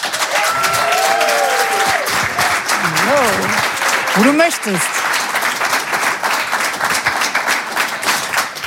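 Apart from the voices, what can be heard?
audience applause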